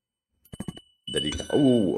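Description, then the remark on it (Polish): A few quick, light clinks, then a small bell rings with a bright, sustained high tone that lingers while a voice starts talking over it. “Dzwoneczek.”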